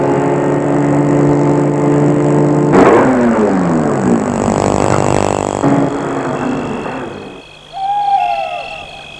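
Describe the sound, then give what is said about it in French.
A car engine hums and shifts pitch as the car drives along a small path into a wood, then settles and cuts out as it stops under the trees in a dark spot, with a brief owl-like hoot afterward. “Il va arrêter sa voiture sous les arbres, dans un coin bien sombre.”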